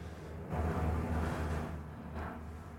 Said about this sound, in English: They looking for somebody. It's literally a helicopter.